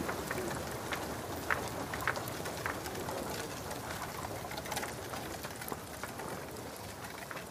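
A dense, steady wash of bird sounds: many ravens gathered on rooftops in fog, calling and fluttering close together, with brief sharp chirps and clicks scattered throughout and a rain-like hiss underneath. No one speaks.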